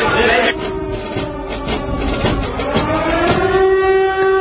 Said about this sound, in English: You know, I don't normally play air raid sirens and marching, but just to set the flavor here, I've been playing it quite a bit